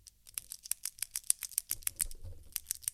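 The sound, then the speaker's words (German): A ballpoint pen clicks rapidly and repeatedly, sharp crisp ticks in a steady, slightly uneven rhythm with soft handling rustle underneath and no voices. “Und ein Kugelschreiber.”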